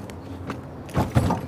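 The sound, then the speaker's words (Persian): A car door swings shut with a dull, low thump, quickly followed by a second heavier thud as it latches, after some faint mechanical rustling. No one speaks. “مهناز در ماشین رو میبنده.”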